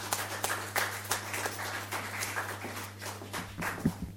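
Audience applause of many hands clapping in a steady, dense patter for a few seconds, heard from a moderate distance with no talking over it.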